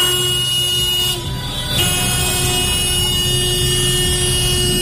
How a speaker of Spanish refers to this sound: En Nules las protestas han llevado incluso a numerosos vehículos, ya fueran coches, bicicletas, motos o camiones, a que hicieran sonar su claxon.